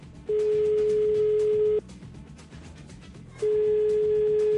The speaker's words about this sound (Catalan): Anem a fer la comprovació. Anem a posar un mòbil que soni. És primer exemple. Algú perd un mòbil i diu, què n'he fet del mòbil? Aviam si sona.